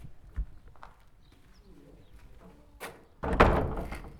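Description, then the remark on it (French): A large, heavy door shuts with a loud thud near the end, just after a brief clank, against a quiet background with faint bird chirps, at the entrance to a cloister at an archaeological dig site. “La grosse porte.”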